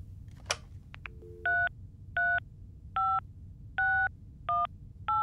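A click, then six crisp touch-tone keypad beeps dialed at a steady pace, each a short dual-pitched tone, clear over a faint low hum; a man is phoning Denmark's Central Register of Motor Vehicles to find the licence plate of his boss's car.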